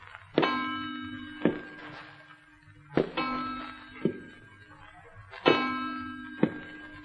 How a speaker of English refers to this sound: Do you think you could sleep in a house where you knew someone or something was walking, walking, and the old clock chiming every ghostly step?